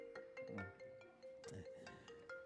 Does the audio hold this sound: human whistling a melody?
no